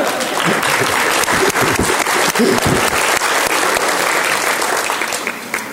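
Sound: audience clapping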